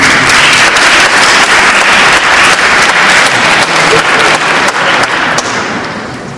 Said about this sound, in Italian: Per cui accogliete un ulteriore applauso e lascio la parola.